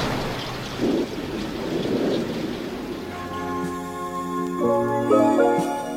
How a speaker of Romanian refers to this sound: Să sperăm că vara s-a sfârșit și că în cele din urmă va veni ploaia. Pământul Siciliei e prea ars de secetă. Da, da, a început ploaia.